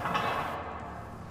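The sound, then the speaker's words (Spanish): A lock gives a metallic turn, then a door swings open with a low, steady scraping rumble lasting just over a second, and no voices are heard. “Giro metálico y la puerta se abrió.”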